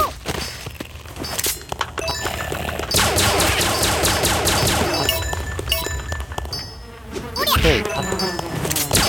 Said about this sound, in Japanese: あ、蜂がいっぱいいる。